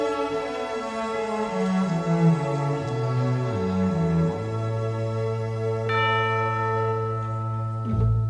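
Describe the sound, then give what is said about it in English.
A song's final sustained chord rings out with a bright, bell-like chime struck near the end, its tone lingering and fading before a last soft strike. “That little chime at the end there”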